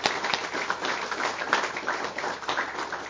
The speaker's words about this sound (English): First, I want to thank the new people. How about a round of applause for the new people tonight?